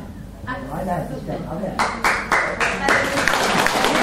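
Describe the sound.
A voice talks over a quiet background, then a group bursts into applause, the clapping swelling from a few distinct claps into a dense, steady patter that continues to the end.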